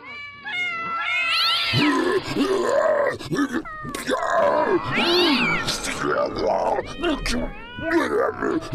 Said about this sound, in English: Cat! Have you ever seen so many cats? Alley cats, domestic cats. Where'd they all come from? And they're being led by Mr. Fluff Nugget!